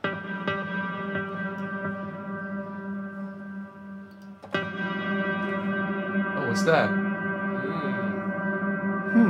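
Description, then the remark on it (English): One musical note struck again and again, each hit blooming into a long, shimmering reverb wash that sustains continuously between strikes; a voice briefly speaks over the drone. “Is it still a reverb or is it a sound already? It just goes.”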